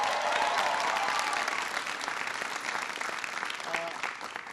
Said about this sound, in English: It's good to see Congressman Bill Keating here. Give Bill a big round of applause.